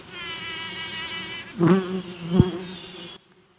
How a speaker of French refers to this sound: Mais il y a un bourdonnement incroyable. J'espère que ça arrive à capter le son. Et elles ont leurs petites pattes pleines de pollen. C'est trop mignon.